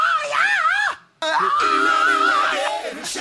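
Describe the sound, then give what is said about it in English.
A high-pitched rock vocal shriek, loud and sustained with a wavering pitch, breaking off briefly before a second long strained scream resumes and holds steady. “Anyway, he does that in almost every one of his like high shrieks.”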